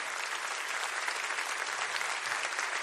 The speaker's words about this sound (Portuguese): Pode aplaudir, aleluia.